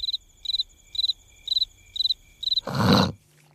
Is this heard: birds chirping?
no